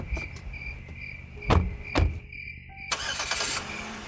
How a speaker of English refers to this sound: Driving down the narrow back road, the headlights of the car bore holes through the dark.